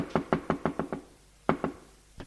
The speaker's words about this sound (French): Il se lève d'un bond. En pyjama beige, frappe à la porte communicante.